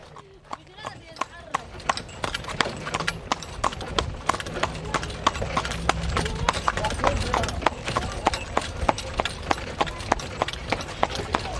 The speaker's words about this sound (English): Echoes of real folk life in Egypt, my friends. Forty-two seconds of horse steps recorded somewhere in Egypt they wanted to include on the album.